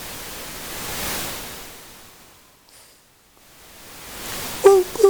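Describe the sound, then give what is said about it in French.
Soft pink noise, shaped into ocean waves by varying its volume, swells and recedes like surf, rising to a broad wash, fading almost to silence, then building again, with a couple of short tonal blips at the very end. “Et alors, par comparaison, le bruit rose.”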